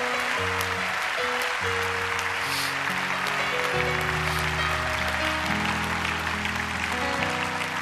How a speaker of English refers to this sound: Give them a big hand clap as they go. Praise the Lord.